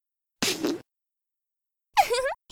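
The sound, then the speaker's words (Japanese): Two short farts, fairly loud: a breathy, sputtering first burst, then after a pause a squeakier one with a wavering pitch, plus the start of a third at the end. “君の肺に入りきらないくらい、私のおなら、詰め込んであげる。”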